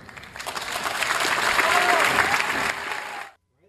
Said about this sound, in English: Wow. Well, you know, it's interesting that Harvard's clapping, and I think that's a lot of the students.